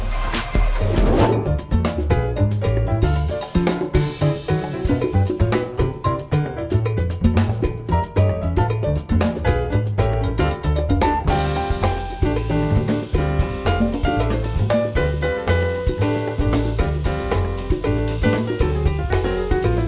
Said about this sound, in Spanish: Vamos a hacer una breve pausa musical y nos regresaremos dentro de un minutito.